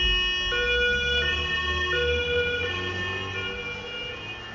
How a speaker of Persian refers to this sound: همون لحظه یه آمبولانس نشکش از بغلم رد شد.